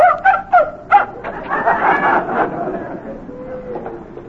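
A dog lets out three quick, sharp yelping barks, followed by a stretch of restless whining and soft whimpers that trail off quietly.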